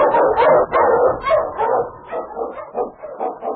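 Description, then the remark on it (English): Husky sled dogs, with the Eskimo lead dog King, bark and yip excitedly in quick, overlapping bursts, loud, with the barking continuing steadily for several seconds and no voices present; in the Yukon. “Our King, swiftest and strongest of Eskimo lead dogs, blazed the trail through storm and snow for Sergeant Preston as he meets the Challenge of the Yukon.”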